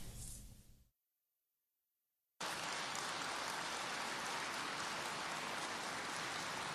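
A brief burst of noise cuts to a second and a half of silence, then loud, dense, long applause from an audience at a speech rises abruptly and carries on steadily to the end, with no voices over it.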